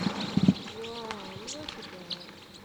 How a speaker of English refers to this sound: There's a whole big flock of crossbills in a Douglas fir right here foraging on combs.